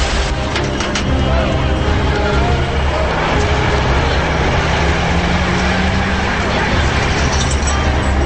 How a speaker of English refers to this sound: A huge tow truck makes its way into the tunnel.